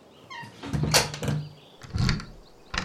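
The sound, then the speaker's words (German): A room door is pushed shut with a short squeak and a few dull knocks, then locked with a sharp click near the end. It is fairly loud, with no talking. “schließ die Tür ab.”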